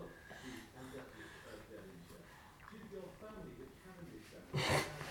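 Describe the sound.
A baby gives a long, drawn-out yawn, breathy and wheezy with soft voiced whimpers, ending in a short, sharp exhaled burst.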